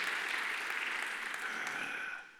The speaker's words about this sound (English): Go ahead and clap your hands and praise him.